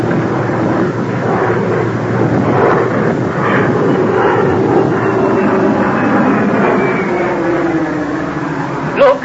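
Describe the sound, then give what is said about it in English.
An airplane's engines roar loudly and steadily as the plane is about to take off, a dense, continuous rumble that holds for several seconds with no one talking. “And the plane's about to take off, I'm afraid.”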